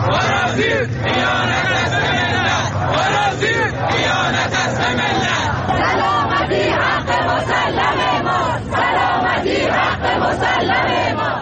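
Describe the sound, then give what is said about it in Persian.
A large crowd of protesters in Shiraz chants loudly and continuously against the spread of jamming signals, many voices shouting together in a dense, rhythmic roar with repeated surges throughout. “تعدادی از شما مخاطبان گرامی برای ما عکس و ویدیو فرستادید که در این قسمت از برنامه به قسمتی از اعتراض مردم شیراز در رابطه با انتشار پارازیت گوش میکنیم.”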